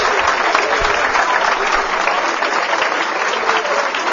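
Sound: loud audience applause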